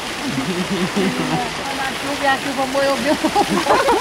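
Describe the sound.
Tropical rain of huge drops, almost like hail, leaks and splashes through a roof in the Amazon, making a steady, dense wet hiss throughout, while a person talks over it.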